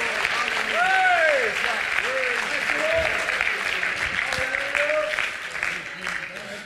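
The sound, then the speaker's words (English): An audience bursts into sustained, dense applause, clapping their hands to thank the Lord, a loud steady wash of many hands clapping with scattered cheers and voices rising over it before it gradually tapers off. “Oh, could you clap your hands as if to thank the Lord?”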